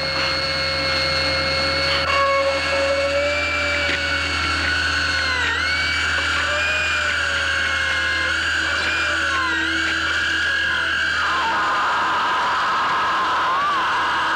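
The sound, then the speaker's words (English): A dental drill whines steadily with a high, layered tone, drilling into a healthy tooth toward the pulp, its pitch dipping briefly a few times as it bites into the tooth, over a low constant hum. No talking. “you're just hearing the sounds of the drill”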